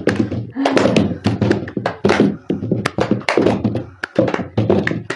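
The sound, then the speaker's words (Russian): Quick, irregular hand claps and slaps repeat in a fast rhythm during a finger exercise, mixed with a voice speaking throughout. “Потом хлопок, забор, река.”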